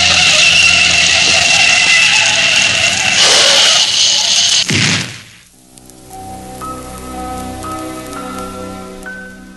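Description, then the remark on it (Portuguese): A bus slams into an old car: a loud, roaring rush of noise builds for several seconds, ends in one abrupt, heavy impact, then gives way to quiet, sustained tones. “Aquele ônibus cresceu bruscamente diante do meu carro velho. E o ruído de pancada foi ensurdecedor.”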